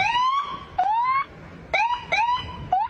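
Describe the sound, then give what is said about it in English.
A man's voice through a megaphone mimics a police siren with about five short, high, wailing whoops, each rising and holding before breaking off, loud and alone with no talking. “Okay, so he sounds just like a goddamn cop car.”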